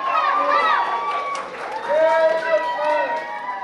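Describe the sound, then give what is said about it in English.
A crowd of children's high voices cheering and shouting together, loud, in a steady overlapping clamor that carries on throughout, with some running and movement underneath, as the children follow Santa Claus waving from the back of a white double cab pickup truck through a Mexican-American neighborhood at Christmas. “A stream of cheering children followed close behind.”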